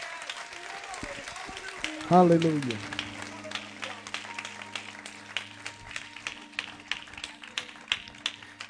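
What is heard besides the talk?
audience clapping hands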